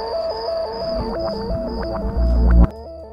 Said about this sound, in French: Le nouvel art radiophonique sera fondé premièrement sur le parasite.